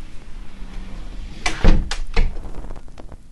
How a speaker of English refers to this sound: Then they got the inner door with all the weather stripping around it. You can hear that.